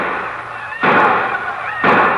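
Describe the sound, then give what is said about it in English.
Two loud gunshots about a second apart, each a sharp bang trailing into a rough, noisy roar, with faint shouting mixed underneath: the excited shots and yells of a few men of Osage, who had decided to make the Cherokee run, one morning. “The excited shots and yells of the few other men of Osage, who also had decided to make the Cherokee run.”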